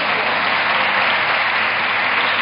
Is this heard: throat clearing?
no